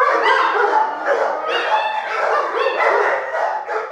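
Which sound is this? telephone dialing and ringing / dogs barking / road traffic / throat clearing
dogs barking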